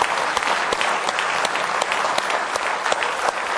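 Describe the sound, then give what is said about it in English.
An audience claps hands in praise, a dense, steady wash of many hands with sharp individual claps standing out throughout, sustained and fairly loud with no speech. “Well, let's just give him a real good hand clap of praise tonight.”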